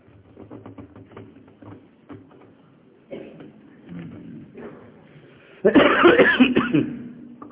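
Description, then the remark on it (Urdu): A man delivering a sermon coughs repeatedly in a series of rough, throaty bursts, building to a loud, harsh fit of coughing near the end. “کھانسی میں مجھے پہلے خدا کے فضل سے کافی اضافہ ہے، کسی گھبرانے کی ضرورت نہیں.”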